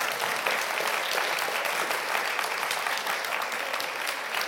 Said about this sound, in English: So anyway, look, big round of applause for a fantastic panel.